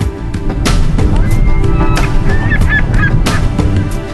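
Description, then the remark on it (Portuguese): A flock of water birds honks and calls steadily at a lake with extremely salty water and a white beach of accumulated salt, a lake that is a nursery for several bird species. It is a dense, noisy chorus of overlapping cries with a few sharper calls standing out, loud throughout. “O lago é berçário de várias espécies de aves.”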